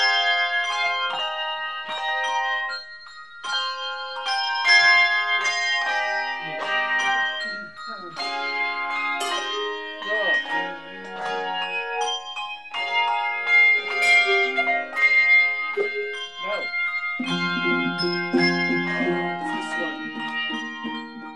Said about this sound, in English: Handbell choirs are common church music ensembles. The Bells of St. Vrain is First Congregational's group and has been performing at the church since the 80s.